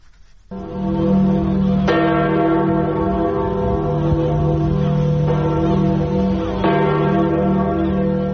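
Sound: church bell ringing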